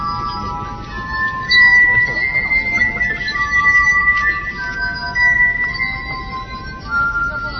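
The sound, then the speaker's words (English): A glass harp made of 22 crystal wine glasses plays sustained, pure ringing tones, several high notes overlapping and shifting slowly over a steady, murmuring background noise. “Alex began collecting crystal wine glasses, 22 in all, that make up his glass harp.”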